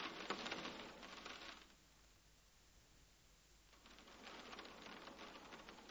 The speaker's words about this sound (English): I forgot my umbrella. It's raining.